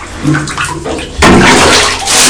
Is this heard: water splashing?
yes